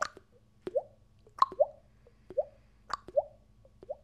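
Water drips steadily, each drop a short plop with a rising, bell-like ping, falling in an irregular rhythm over a low, soft background hum, with no one talking.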